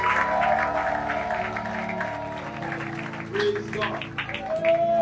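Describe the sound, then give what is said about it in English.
A church audience at a morning service claps steadily and shouts for the Lord over a sustained keyboard or organ tone, the applause dense and continuous for several seconds with scattered voices calling out. “And if you are the one I'm talking to this morning, you want to give the Lord a clap and a shout.”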